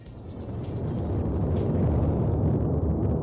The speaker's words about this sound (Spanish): seguimos mirando a La Palma, donde la erupción del volcán de Cumbre Vieja no se detiene. Es más, ha aparecido una nueva colada por la parte trasera y la actividad sísmica aumenta.